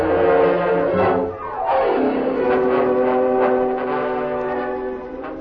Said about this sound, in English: There's the train, Sam.